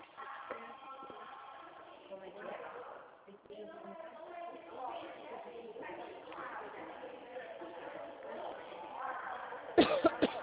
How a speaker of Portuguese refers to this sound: Uma tosse, eu acho que é o tempo seco.